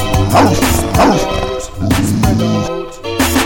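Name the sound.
small dog barking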